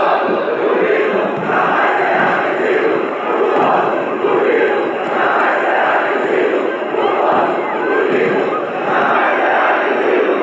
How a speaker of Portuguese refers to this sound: 29 de abril de 2015. O que se via no centro cívico em Curitiba era uma multidão, rostos determinados, vozes unidas em um coro.